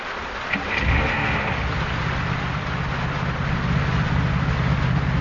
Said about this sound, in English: I had to get him out again. I went over and started his car.